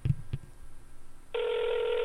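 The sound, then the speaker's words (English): After two soft taps, the ringing tone of a phone call to the caller's mother begins and holds steady, a continuous electronic buzz-tone carrying through to the end with no one speaking or picking up. “It's ringing. It's not even going to pick up.”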